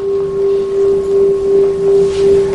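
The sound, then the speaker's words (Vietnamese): A Buddhist temple bell is rung during a prostration ritual to signal worshippers to stand after the third bow. It rings on in a long, steady hum, its deep tone swelling and fading in slow, regular pulses throughout, with no voices present. “Mà cái thứ 3 này không nhập nữa mà thỉnh lên, để cho người ta biết đứng lên và đây là lễ thứ 3 rồi, không cần nhập chuông nữa.”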